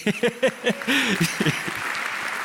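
A man speaks briefly, then audience applause for a person sitting in the audience rises into a steady, dense clatter of many hands clapping that carries on at moderate loudness to the end.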